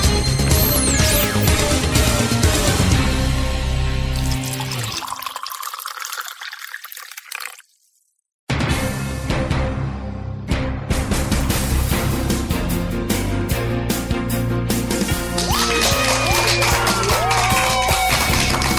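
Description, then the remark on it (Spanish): Applause from an audience, a dense crackling wash of clapping mixed with upbeat music, fades out, then drops to a second of silence before a loud burst of clapping and music returns. “Y con esa energía positiva y esos aplausos damos inicio a este episodio ya 68 del programa Te Invito un Café.”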